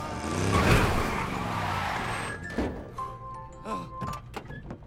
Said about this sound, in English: The truck hits a ramp and launches into the air. It lands beside the pod.